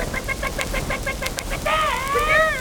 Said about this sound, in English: And chickens.